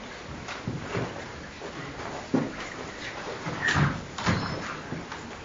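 A window being opened: a series of scraping, knocking handling sounds and a short slide, with a sharp clack near the middle and a few more thuds toward the end.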